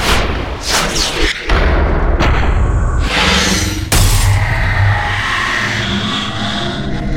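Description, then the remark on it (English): A rapid montage of loud, sweeping whooshes and cinematic transition effects, with deep booming impacts and abrupt cuts between bursts, layered densely with no speech. “Whooshes and transitions.”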